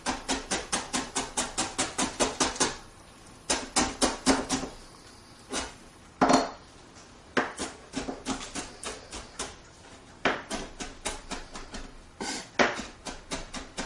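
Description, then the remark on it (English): A knife chops food finely on a cutting board in quick, steady bursts of sharp taps, broken by short pauses. The chopping is clear, with no one talking. “And we're going to chop this real fine.”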